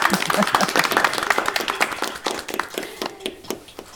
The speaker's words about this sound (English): The story finished. Clap, clap, clap, clap, clap, clap.